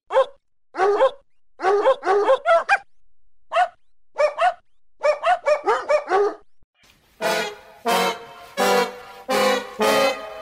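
A Great Dane makes quick rhythmic huffing, whining breaths in short clusters, then breaks into several loud, deep barks. No people speak.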